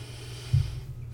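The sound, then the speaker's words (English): A single deep breath pushed out, a short, low, breathy rush with a slightly snorting edge, as a woman tries to find her breathing for inner peace, heard alone with no talking. “trying to find her breathing in her own place.”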